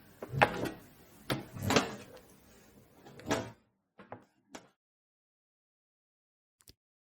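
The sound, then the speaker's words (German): A door swings and shuts with a few heavy wooden thuds and rattles, followed by softer latch clicks, then quiet with one faint final tap. “Vorsichtig ging er darauf zu und schloss die Tür”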